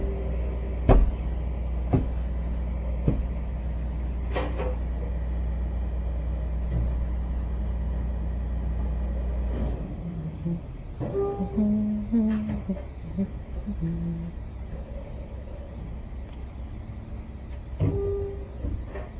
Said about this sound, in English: Look at that big green truck. Getting our garbage. Bye, garbage. Nice knowing ya.